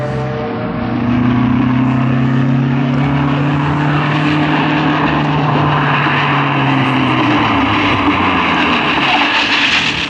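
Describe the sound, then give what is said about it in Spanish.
A loud, steady motor roar fills the scene as a police patrol car passes alongside a stopped car, its engine hum sliding gradually lower in pitch as it slows and stops a little further ahead, with no voices over it. “Calimán detiene el auto y la patrulla cruza a su lado, deteniéndose un poco más adelante”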